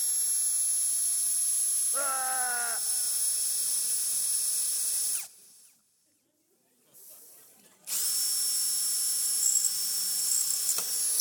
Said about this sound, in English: I borrowed this drill off Braden and he's got me the bluntest drill piece